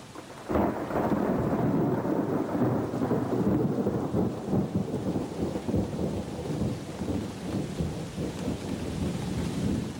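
A thunderstorm: heavy rain pours steadily while deep thunder rolls and rumbles continuously, loud, starting abruptly after a brief quiet moment and lasting throughout, with no voices.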